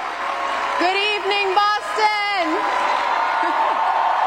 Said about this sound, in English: About 3,000 people were in the audience at the new MGM Music Hall. They were excited for Wu's speech. They gave her an ovation before she even started.